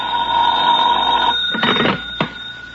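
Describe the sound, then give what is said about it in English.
A telephone bell rings with a steady, bright metallic tone for over a second, then stops; a brief clatter follows, like the receiver being picked up. “I wouldn't hear from him for days, and then all of a sudden he'd call up at the craziest times.”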